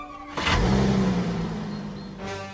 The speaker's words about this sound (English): And then his father comes home driving a new Passat, and he rushes past his dad to get out and use his force. We then see in the kitchen the father uses his key fob that allows you to start your car remotely.